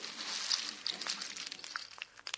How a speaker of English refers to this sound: Could you please tell me what's happening when you hear the Snap, Crackle and Pop with Rice Krispies?